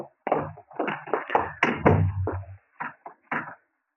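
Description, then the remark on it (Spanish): A connecting door is pulled shut with a rattling, creaking clatter that ends in a heavy thunk, followed by a few short knocks and clicks as the latch settles. “Cierre esa puerta de comunicación.”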